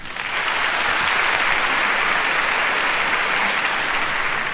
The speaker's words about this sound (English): You wanna see something amazing? Watch this. Clap if you're a woman in the audience.